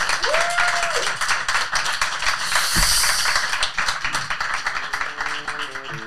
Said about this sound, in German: Und jetzt haben wir noch Applaus, bitte sehr. Danke.